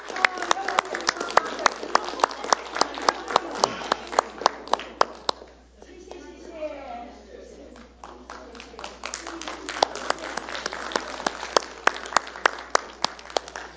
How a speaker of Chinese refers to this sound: 我们感谢所有小朋友，给他们热烈掌声来感谢他们，谢谢，谢谢书记。